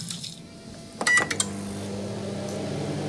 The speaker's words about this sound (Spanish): Hay una máquina. Oh, sí. ¿No? Sí, una máquina. Un timbre.